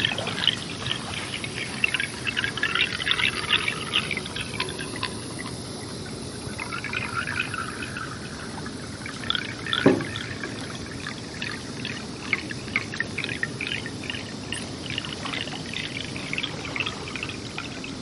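Continuous sound of a river recorded with an underwater hydrophone in an audio installation: a dense wash of bubbling, gurgling water flowing over the microphone, with scattered clicks and crackles, steady throughout, with one brief low thump midway. No voices.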